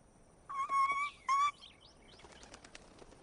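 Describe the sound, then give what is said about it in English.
Birds chirping: two loud, sustained whistling calls, followed by a scatter of softer, quick chirps and light fluttering. No one speaks. “Well, it looks like your birds are back.”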